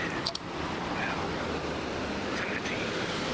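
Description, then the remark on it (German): Rain falling in a steady, dense hiss that holds at an even level throughout, with a few brief sharper ticks near the start and no voices. “Aber ja, jetzt regnet's doch wieder.”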